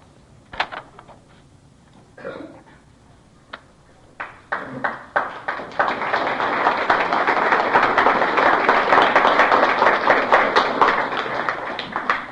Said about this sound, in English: I'm really surprised at your applause. I read that poem very badly. Thank you, anyway.